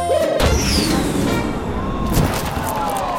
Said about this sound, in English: cue the prize cannon. Fire away!